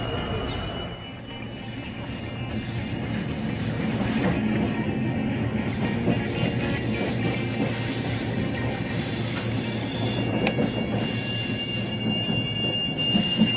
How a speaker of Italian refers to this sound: Invece adesso inizio a raccontarla da un rumore del treno.